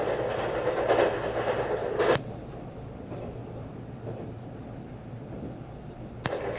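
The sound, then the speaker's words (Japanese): A JR West limited express train, the Kitakinki No. 10, rolls along the rails toward its terminus at Shin-Osaka with a steady rumble, louder at first, and two sharp clacks from the track at roughly two and six seconds. No voices. “今日も JR 西日本特急の北近畿10号をご利用くださいましてありがとうございました。”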